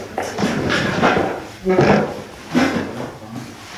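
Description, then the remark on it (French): Chairs scrape and shuffle across a floor in several overlapping bursts, with occasional squeaks and thuds, as participants in a parenting session drag the chairs around a room to split into two groups, continuous throughout. “Vous pouvez bouger les chaises.”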